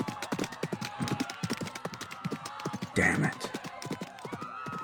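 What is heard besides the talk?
horse hooves clip-clopping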